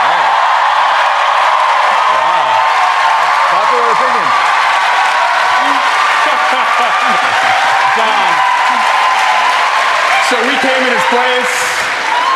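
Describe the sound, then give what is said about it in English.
A live audience in London applauds steadily and loudly for the whole stretch, a dense wash of clapping with scattered shouts and voices rising through it. “They're obviously applauding because they too believe that the price tag on the new embassy is too high.”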